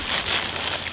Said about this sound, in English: There's our parachute, our balloon, and we're going to head outside. And there goes our balloon and our sun on the way up into the stratosphere. Do we still have the signal? Yes. If you guessed a weather balloon, you were right.